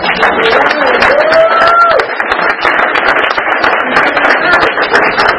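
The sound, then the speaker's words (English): A meeting audience breaks into loud, sustained applause, dozens of hands clapping in a dense, rapid patter that holds steady throughout, with a brief voiced whoop rising over it early on. “Anybody too shy or maybe didn't hear it with all the clapping going on?”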